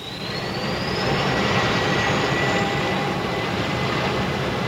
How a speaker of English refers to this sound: This is K-Flight 113 Transways, port K2 to ground control. Request permission to start engines. You have permission, Captain. Hit 'em,